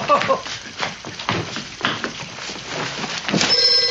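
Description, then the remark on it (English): A telephone bell starts ringing near the end, a bright metallic trill cutting through steady rain-like hiss and faint muffled voices. “phone!”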